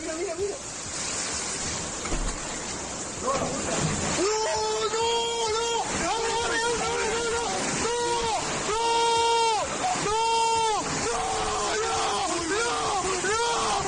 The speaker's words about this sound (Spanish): Estamos impactados, la verdad, con este vídeo que nos llega desde Covisa, en Toledo, por esos gritos de pánico de este joven. El agua irrumpía por la puerta como si de una operación de los geos se tratara y en ese momento arrasara con las mesas